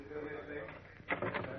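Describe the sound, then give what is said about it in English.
A door to the hall is opened, a drawn-out creaky groan giving way to a few knocking clunks near the end, with a faint murmur of voices underneath. “I'm going to open another door to the hall.”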